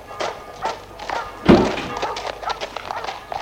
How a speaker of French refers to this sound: Le chauffeur ferme les portes. Et la voiture a démarré.